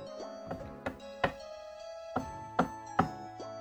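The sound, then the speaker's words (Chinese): Around eight sharp knocks on a door early in the morning, by a neighbour, loosely spaced in small clusters, with a steady musical backdrop humming underneath. “一大早，我正睡得迷迷糊糊，突然听到敲门声。”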